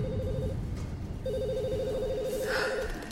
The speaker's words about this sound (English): Phones in the office were ringing off the hook.